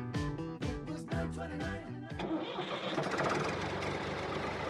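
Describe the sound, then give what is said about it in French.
A tractor engine cranks over in several loud, rhythmic bursts, then catches and settles into a steady rumbling idle. No voices are heard. “Dis donc, tu t'es fait ch**er au volant de ton John? Eh bien, allumez votre radio, car de 13 à 14 heures, ça groove dans le tracteur avec Stan.”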